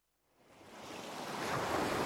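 Surf rising out of silence into a broad, steady roar of ocean waves breaking on a beach, with a strong wind coming off the sea, growing louder over two seconds with a windy hiss and no voices.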